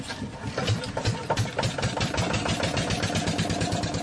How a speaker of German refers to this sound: Mit gleichmäßigem Tuckern gleitet der kleine Kutter durch den Fluss.